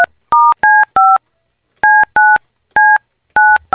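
telephone keypad dialing tones

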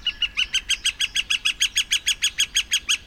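northern flicker woodpecker call

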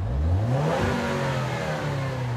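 turbocharged car engine revving

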